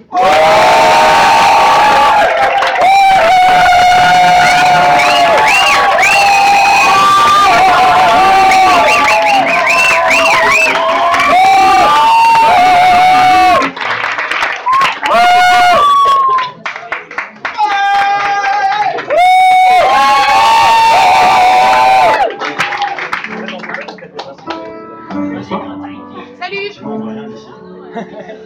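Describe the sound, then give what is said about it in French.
A large audience at a goguette singing show bursts into loud, sustained applause mixed with whoops and shouted cheers, then breaks into uneven bursts of clapping and yelling that gradually thin out and fade toward the end. “chante une goguette pour la première fois, on applaudit deux fois plus fort. Donc, on va faire un tonnerre d'applaudissements.”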